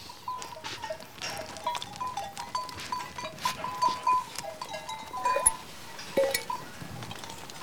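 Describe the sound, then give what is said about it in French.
A flock of ewes gathered in a pen moves and shuffles while a woman tends to them in the late morning, with scattered bleats, hoof patter and small clinks over a busy background of rustling activity. “est en train de procéder aux soins des brebis qu'elle a regroupées donc dans le cortal.”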